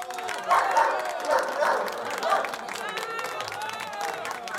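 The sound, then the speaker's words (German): Several short bursts of dog barking rise over a noisy, bustling crowd at a dog show with a prize for the most beautiful dog, with a few loud barks early on and fainter ones scattered through the rest. “Ein dreifaches Wauwau unseren heißgeliebten vierbeinigen Freunden.”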